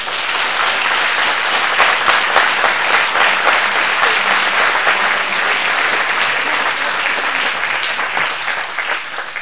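Sustained audience applause for the municipal staff of the commune of Craponne fills the whole stretch, a dense, steady patter of many hands clapping at an even loudness, with no voices standing out above it.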